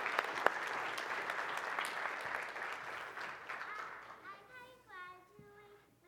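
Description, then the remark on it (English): A group claps steadily to congratulate pre-K graduates, in dense, overlapping applause that fades out toward the end, where a few high, bright child-like voices rise and call out over the last scattered claps. “So let's go ahead and clap and congratulate all of them.”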